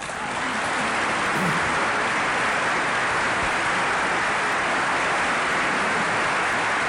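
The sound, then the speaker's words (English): A large audience applauds after a speech in a steady, dense roar of clapping that holds at an even, fairly loud level for about seven seconds, with no voices over it. “I should just note that at the end of that applause, he brought his teeth back in, his fangs back in, and he said, and I hope you'll use it with me.”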